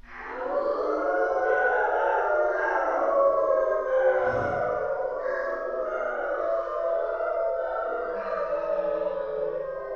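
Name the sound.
wolves howling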